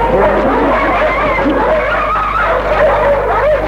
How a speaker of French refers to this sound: Les deux chiens arrivent. Ils grognent après. Ils veulent la mordre.